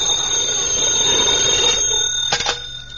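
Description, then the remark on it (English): A telephone bell rings in a steady, bright metallic trill for nearly two seconds, then cuts off, leaving a couple of short clanging taps and a faint hum. No one speaks. “Phone's ringing.”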